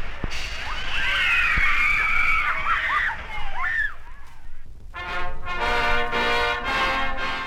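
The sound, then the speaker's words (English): Riders on the log flume at Six Flags, descending a 44-foot-high chute at a 90-degree angle into a lakelet of water, scream in high, wavering shrieks over a steady rush of water, followed by a loud burst of excited shouting voices. “The log flume is one of the most popular rides at Six Flags, and that fact is proved by the happy sounds that accompany the splash of each log.”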